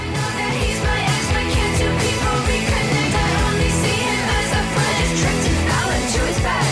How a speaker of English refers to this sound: she gives us this shouting chorus full of joy.